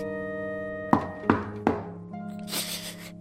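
Three soft, evenly spaced knocks on a woman's door, muffled thuds rising over a steady bed of sustained musical tones, followed by a brief airy swell.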